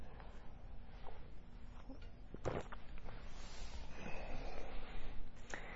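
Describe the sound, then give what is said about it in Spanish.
Someone takes a quick sip of water: a soft slurp and a sharp breathy intake midway, followed by quiet breathing over a steady low background hum, with no talking. “Déjame tomar un traguito de agua.”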